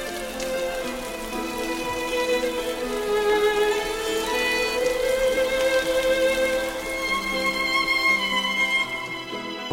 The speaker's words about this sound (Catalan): I de sobte es va posar a ploure.